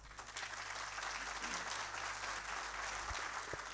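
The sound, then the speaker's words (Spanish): Steady applause from an audience at a decoration ceremony for the Orden Nacional al Mérito Comuneros: a dense continuous patter of many hands clapping at an even loudness for several seconds, with a low hum underneath and no voices. “Más fuertes los aplausos, por favor”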